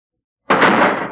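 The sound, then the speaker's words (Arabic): After a moment of silence, the heavy door of the ark slams shut with one loud bang, followed by a dense, rumbling resonance that lingers and fades slowly. “ثم أغلق الله الباب”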